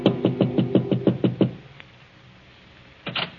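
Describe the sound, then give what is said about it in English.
A rapid series of about eight muted, soft knocks on a wooden apartment door in the evening, evenly spaced, followed by quiet room tone and a faint shuffle or movement near the end. “Then as he prepares a drink, there is a soft knock at his door.”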